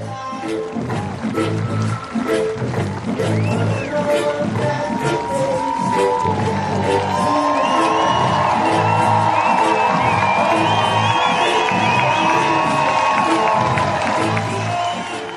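A crowd claps and cheers steadily while music plays underneath, with sustained melodic notes swelling in the second half over the continuous, loud applause.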